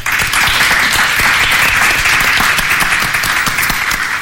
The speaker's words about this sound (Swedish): Välkommen till ett avsnitt av podcasten En svensk tiger som idag spelar in på Historiska museet i Stockholm. Och en applåd för publiken som är här idag.